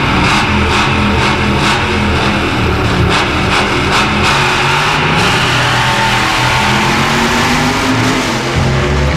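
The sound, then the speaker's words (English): A car does a burnout, its engine revving hard and loud throughout, with a constant roaring, hissing layer like spinning tires, and a few sharp pops breaking through near the start. “More of a burnout than a car crash.”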